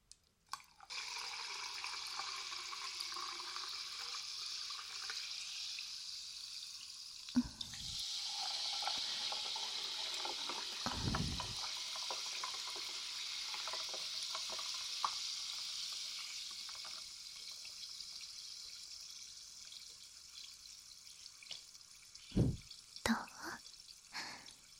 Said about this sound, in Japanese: 酸飲料を注ぐ音だよ。目の前だけじゃなくって両耳にも聞こえるように注いじゃおった。